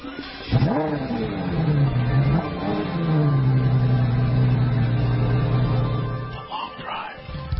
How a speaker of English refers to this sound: It's one of the hottest muscle cars out there, and it's back for 2010. The new Camaro.